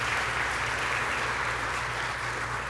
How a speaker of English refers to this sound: Yeah, you can applause for them. Absolutely.